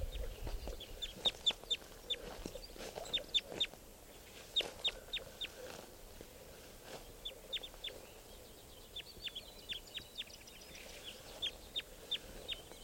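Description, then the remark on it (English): A bird gives repeated short, sharp calls in quick bursts, with clucking chicken-like sounds and faint background rustle between them; no one speaks. “So, one of the birds here is calling.”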